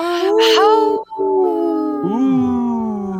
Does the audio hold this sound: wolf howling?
yes